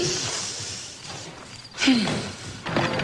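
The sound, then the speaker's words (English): A sharp, fleshy slap, a woman slapping a man on the backside, cracks out of a quiet background, followed moments later by a softer thud or shuffle. “She slaps him on the backside.”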